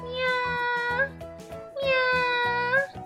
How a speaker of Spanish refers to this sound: Otro día soñó que estaba leyendo plácidamente en su sofá y escuchó que su hermoso gato maullaba.